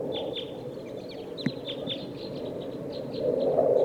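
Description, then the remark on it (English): Two type 2 birds in the top of a pine tree give repeated short, high chirping calls, a steady series of thin notes with a few sharper downward-sweeping ones, over a constant low rumbling background; no one speaks. “2 of type 2 birds here in the top of this pine tree.”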